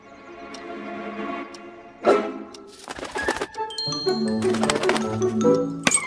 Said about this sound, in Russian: Это же сорока, воровка! Не дайте ей улететь с моими ключами!